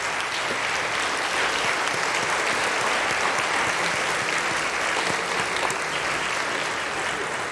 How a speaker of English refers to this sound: Let us offer our applause by way of recognition.